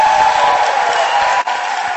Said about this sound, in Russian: Я хочу наш коллектив театра под руководством Зайнева поздравить с потрясающим успехом. Это 3 золотые маски. Я думаю, аплодисменты будут заслужены.